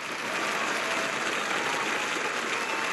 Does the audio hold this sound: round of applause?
yes